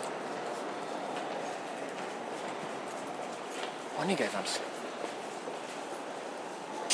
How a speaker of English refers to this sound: The further we go up, the more chance we have of getting some space on this train.